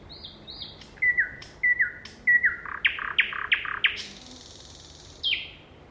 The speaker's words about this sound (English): Nightingales, you mentioned nightingales, and obviously nightingales is a very attractive. Ja sitten on vielä se satakieli. Satakielen laulu on mielestäni kaunista, mutta se liittyy myös omiin kokemuksiini,